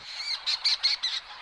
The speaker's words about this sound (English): There are two species here, and each gives a unique vocalization. The fork-tailed storm petrel has this one that just gives 3 to 5 grating notes, like a yep, yep, yep, yep.